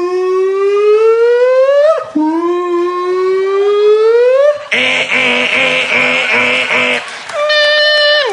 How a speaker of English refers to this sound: It's late at night, and you're laying there, and all of a sudden, outside, you hear a car alarm go off for like 46 minutes.